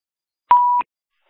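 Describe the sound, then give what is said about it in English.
A single short electronic beep from a phone, one steady mid-pitched tone lasting about a third of a second with a faint click at each end, heard alone against silence. “Please mute your phone, please.”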